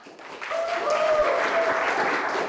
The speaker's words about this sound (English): Patrons of all ages intently listen to spoken word and music performances. The crowd erupts into applause, hoots, and hollers between each performance.